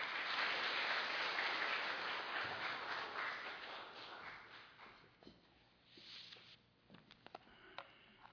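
A church audience claps steadily for about five seconds to welcome a pastor as speaker, a dense patter that gradually thins and fades, leaving a few scattered claps and faint shuffling at the end.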